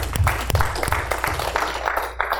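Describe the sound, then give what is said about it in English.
A crowd applauds, giving God a hand clap. Many overlapping hand claps form a steady, dense patter at moderate loudness for a couple of seconds, with a few sharper claps standing out early on. “Let's go get God a hand clap.”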